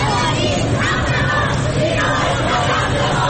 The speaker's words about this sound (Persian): همزمان در جنوب ایران، بندرعباس، فریادهای دخترانی که میگویند ژینا نام رمز آنان است.